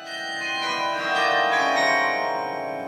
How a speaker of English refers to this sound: The bell tower rises 120 feet above the main sanctuary of the church. It houses 50,000 pounds of steel, containing one of the South's heaviest and rarest musical instruments, a 20-ton carillon.